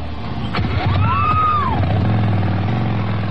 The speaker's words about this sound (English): And so in the spot, right, that's Vince Neil taking off on his motorcycle without a helmet on. Right, riding a motorcycle without a helmet, but he wants to warn us about the dangers of doing drugs.